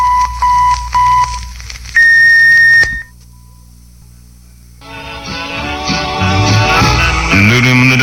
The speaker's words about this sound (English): The KFWB electronic time tone is accurate to within 1/20,000th of a second. At the tone, exactly 1 minute before 7 o'clock.